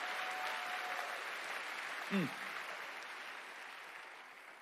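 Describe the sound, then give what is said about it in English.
An audience claps their hands to praise God, a steady, dense, even wash of applause lasting the whole time, with a short voiced cry rising briefly above it partway through. “Clap your hands and praise God if you believe in the power of the Lord's table.”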